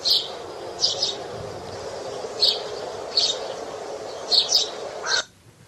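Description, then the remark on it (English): Birds call in a string of short, bright bursts at irregular intervals, some doubled, over a steady outdoor hiss, in a misty forest with pink blossom trees, with no talking, until the sound cuts off abruptly. “Pink blossom trees were drooping down over the two with a sweet smell of delight, the gloomy mist suddenly surrounded all the tall trees around Enid and Hannah, and the birds sang a sweet song of beauty.”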